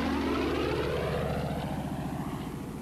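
The piston engine of a P-47 Thunderbolt, a fast, tough, high-altitude American fighter plane, roars in a loud, steady, throbbing drone, its pitch sliding slightly downward over about three seconds, with no voices.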